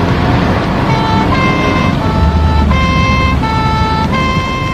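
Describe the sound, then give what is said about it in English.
A police car siren wails in a steady two-tone pattern, alternating high and low pitches, loud over the rumble of the moving police car and road noise, as it pursues a car with the number UYT576J. “Right, put the siren on.”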